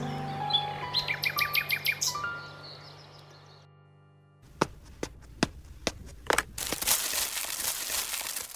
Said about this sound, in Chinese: 皇帝非常宠爱夜莺，每到晚上，夜莺的歌声就会回荡在皇宫里。